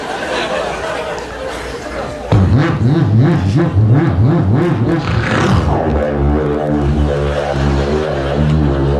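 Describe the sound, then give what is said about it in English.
A car engine suddenly roars to life and revs loudly up and down several times, then settles into a steady, throbbing idle. Faint background chatter precedes it. “"What is this, an airplane engine?"”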